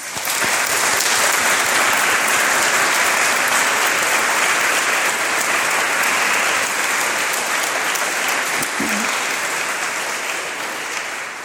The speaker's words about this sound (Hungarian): köszönjük a szép énekzenei szolgálatot, egy visszajelző tapssal jelezzük tiszteletünket, köszönetünket.